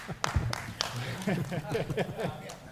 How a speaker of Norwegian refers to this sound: Ja. Halvhjertet applaus